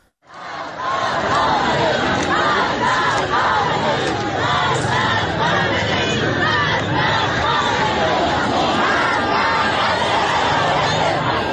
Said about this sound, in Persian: تشییع پیکر یک نوجوان 16 ساله کشته شده در جریان اعتراض‌ها به نام علیرضا سیدی جمعیت پرشماری حضور دارند و شعارهای اعتراضی تندی هم علیه حکومت سر میدن.